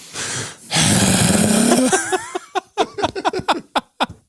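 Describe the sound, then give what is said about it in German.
A loud, deep snorting inhale drawn into a microphone for about a second, followed by a rapid string of short wet snuffles and smacking, clicking mouth noises, all without any talking. “Einfach so reinatmen, richtig tief einatmen ins Mikrofon so.”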